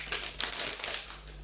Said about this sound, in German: Ich muss erst mal gucken, wie ich das hier aufbekomme. Es ist irgendwie eine etwas festere Haribo-Tüte vom Geräusch her.